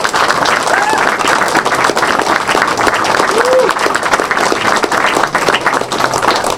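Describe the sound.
An audience at the World of Commoners gathering applauds two club helpers, dense clapping running loud and even throughout, with scattered cheers and murmuring voices mixed into the crowd noise.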